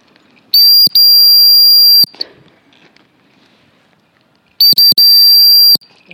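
A shrill whistle is blown in bursts to call a dog: a short blast and a long one, a pause, then two quick pips and another long blast, loud with little background noise.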